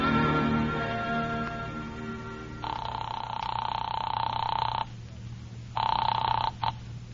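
A telephone at a city desk rings in two bursts, a long steady ring followed by a shorter, broken one after a brief pause, loud, over a low steady hum with no one speaking.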